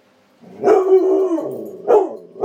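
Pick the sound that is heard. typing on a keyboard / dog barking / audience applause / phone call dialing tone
dog barking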